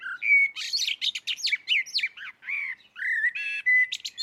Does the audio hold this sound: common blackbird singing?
yes